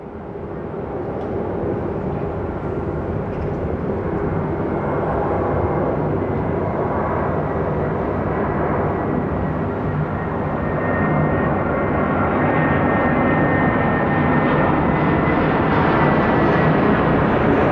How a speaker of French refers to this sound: Et les avions, ça vous dérange pas? Non, pas du tout, parce qu'on s'habitue au bruit, hein, de toute manière.